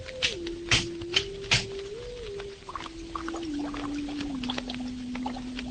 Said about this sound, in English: What you are hearing at this moment is a Thrall globule oscillator operating at microwave frequencies of astronomical proportions.